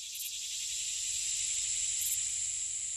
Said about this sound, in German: Haben Sie es erkannt, wer da surrt? Es sind Heuschrecken. Sie können in Vielzahl schnell zur Plage werden, aber ihre Flugkünste sind unschlagbar.